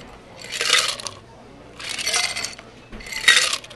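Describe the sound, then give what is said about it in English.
Liquid is poured back and forth between a stainless steel shaker and a glass to mix a drink of ground eucalyptus, birch bark and spearmint. There are three splashing pours in a steady rhythm with bright metallic clinks, fairly loud, with no talking. “And we're going to throw it back and forth from the shaker into the glass.”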